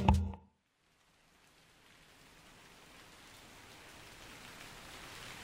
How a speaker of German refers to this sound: An diesem Morgen regnet es.